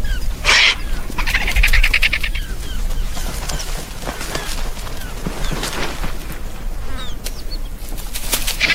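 Vultures beat their wings at a dead yak carcass on the Tibetan plateau in loud, rough whooshing bursts, with scattered sharp squawks and hisses in a continuous scuffling din and no talking.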